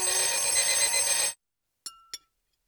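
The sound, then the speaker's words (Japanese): A loud, shrill alarm clock rings continuously with a harsh metallic buzz, then cuts off abruptly, followed by two short clicks or taps as it is silenced. “るさいぞ。目覚まし止めろ。”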